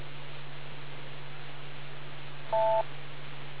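A single short two-tone beep signalling a change of speaker sounds once after a stretch of steady hiss and low hum, like a radio courtesy tone marking the end of a transmission. No one speaks.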